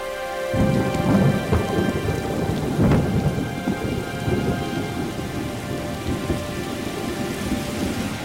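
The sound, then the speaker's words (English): Heavy rain pours down steadily, a dense continuous roar of drops drumming on surfaces with a low rumble of thunder beneath, loud throughout with no voices. “Seen it rain this hard in a long time.”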